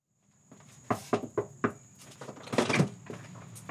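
A front door opens close by: a quick series of four sharp latch clicks and rattles, then a louder scraping swing. A faint high-pitched whine hums steadily throughout.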